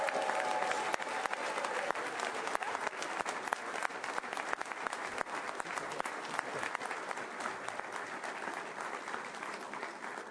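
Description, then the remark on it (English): A large crowd claps and cheers for Iowa Governor Branstad and Lieutenant Governor Reynolds in sustained, dense applause that stays loud and steady for about ten seconds, with no one speaking over it. “Everyone, help me cheer them on as Governor Branstad and Lieutenant Governor Reynolds continue the task of building Iowa's future!”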